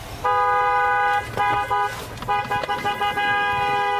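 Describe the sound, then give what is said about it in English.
A vehicle horn honks in loud, steady blasts, three long tones with short breaks between them, the harmonic pitch holding flat, over a low rumble of engine noise, blown by a driver stopped beside a barn to see if anybody comes out. “Let me stop and blow my horn, see if anybody comes out.”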